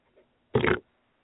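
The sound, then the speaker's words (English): A single loud fart sound effect, a short, low, buzzing rasp lasting about a quarter of a second, with quiet before and after and no talking. “Will you stop playing fart noises, for fuck's sake?”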